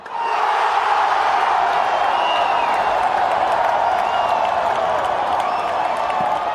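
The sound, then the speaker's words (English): A huge football stadium crowd at Morumbi Stadium in Brazil, at a game between Brazil and Bolivia, roars continuously, a dense wash of cheering voices with occasional whistles and shouts rising above the steady, loud din. “I went to Morumbi Stadium to record a game between Brazil and Bolivia, and the crowd was insane.”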